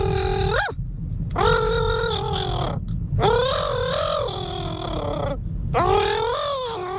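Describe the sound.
Someone imitates a llama call: four strained, nasal, wavering cries with short pauses between them, loud, over a constant low rumbling background.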